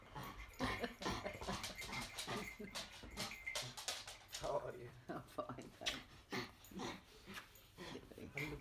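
A dog makes whimpering, excited noises, with brief yips and panting breaths mixed into ongoing chatter from people.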